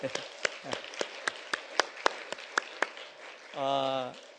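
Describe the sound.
Steady, evenly paced clapping from an audience welcoming two visitors, about a dozen sharp claps in a regular rhythm, followed by a short voiced sound from a person as the clapping stops.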